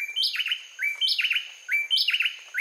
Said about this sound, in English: On a winter morning in Costa Rica, a pair of bay wrens sings a brisk duet just before sunrise. Though the bay wrens stay well hidden in the underbrush, they have all the decibels they need to make themselves known.